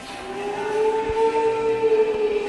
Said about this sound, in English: That may sound like a ghost, but it's really the vacuum cleaner. Even vacuum cleaners sound spooky at night.